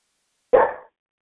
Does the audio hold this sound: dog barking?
yes